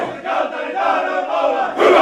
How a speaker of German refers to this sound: Ein schreiender Männerchor, das ist eine Idee, auf die man vielleicht nur hier in Finnland kommen kann.